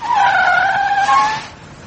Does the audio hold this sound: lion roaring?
no